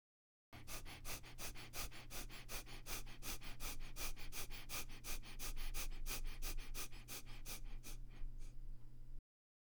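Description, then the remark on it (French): Rapid, forceful abdominal breaths pumped out in a steady rhythm, roughly three sharp puffs per second for several seconds, fairly loud over a low constant hum, with no talking; a rapid abdominal breathing exercise done with the head held in line with the body. “Respiration abdominale rapide avec la tête dans l'axe du corps.”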